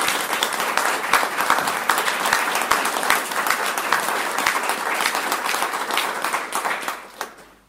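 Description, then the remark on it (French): An audience applauds a newly presented baptism candidate during a church service, many hands clapping in a dense, crackling wash that holds for several seconds before thinning out and stopping, with one last clap at the end. “Nous pouvons l'applaudir.”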